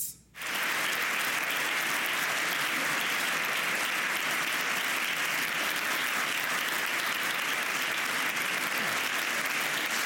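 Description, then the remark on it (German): Loud, sustained applause and a standing ovation from a large crowd for the American Secretary of State at the Munich Security Conference. A dense, steady roar of clapping fills the whole stretch. It starts abruptly and never lets up, with no speech over it. “Tja, großer Applaus, Standing Ovations für den amerikanischen Außenminister, Herr Laschet.”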